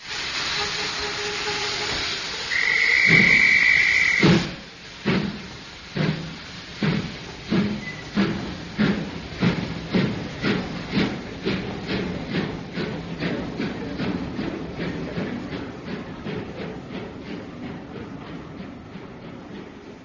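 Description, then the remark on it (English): A steam train pulls away with a loud hiss and a whistle, then its rhythmic clickety-clack on the rails speeds up and gradually fades away. “I should have been on that train.”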